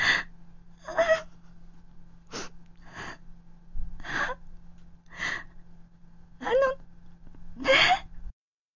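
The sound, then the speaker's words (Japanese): A woman sobs in ragged, gasping bursts, about eight shaky breaths with whimpering catches, fairly loud over a faint steady hum, with no words spoken. “泣いてちゃわからないよ。”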